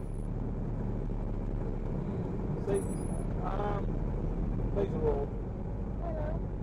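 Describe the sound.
Steady low engine and road rumble from inside a moving car in which a couple gives a passenger a ride, the driver pulling over at nearly every tree to point out details; droning evenly throughout, with a few brief, muffled voices breaking in now and then.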